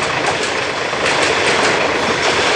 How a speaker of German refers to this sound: Der Zug ist wenigstens einen Kilometer lang. Bis der vorbei ist, haben wir Justus verloren.